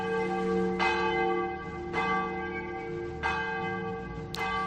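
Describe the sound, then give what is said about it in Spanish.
Wedding church bells ring in a steady rhythm, four clear strikes about a second apart, their rich overlapping tones sustaining and blending between each peal. No voices are heard. “Vivió su infancia en Lleida y muy jovencita, a los 17 años, ya sonaron campanas de boda.”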